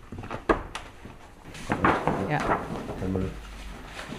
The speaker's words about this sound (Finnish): Ai, mutta ottaa pää pois, että saadaan kaapin ovi auki.